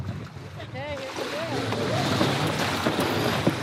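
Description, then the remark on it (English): Sails being raised on a 42-foot sailboat at sea, 3 miles off Costa Rica: a steady rush of wind and water fills the scene, with brief squeaky, wavering tones and faint voices in the background. “We're 3 miles off Costa Rica on a 42-foot boat when it's time to raise the sails.”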